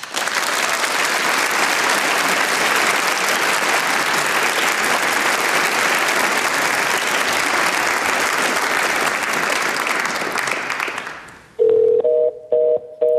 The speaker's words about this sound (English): That's the sound my father's pay-as-you-go cell phone makes when it's out of minutes and out of money.